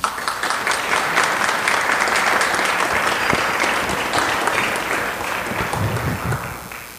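An audience claps to welcome a dean, a steady, dense, even wash of many hands for about seven seconds that holds its loudness before easing off slightly at the end.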